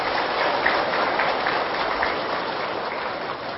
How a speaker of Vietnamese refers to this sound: Do đó để phát triển được tình người, mỗi người hãy thực tập bốn trọng ân vừa nêu với một tràng vỗ tay thật lớn để cam kết.